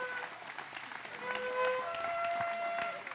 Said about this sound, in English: Thank you. Give them a big clap. Thank you, guys. Appreciate it.